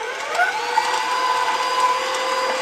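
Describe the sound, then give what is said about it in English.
An electric mixer whirs steadily as it whips chocolate mousse, a continuous motorized drone with a faint high whine that holds even throughout, with no voices. “So I like to whip it up and make it light and fluffy.”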